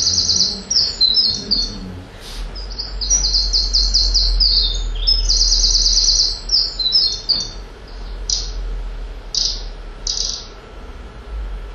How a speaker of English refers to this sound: And this little fella, again, massive voice for such a small bird.